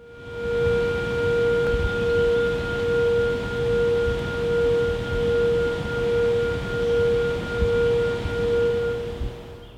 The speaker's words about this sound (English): If you guessed a signal for people fishing, you're right. You heard a June 2013 recording of a warning siren at the Clater Lake Hydroelectric Facility on the New River in Pulaski County, Virginia.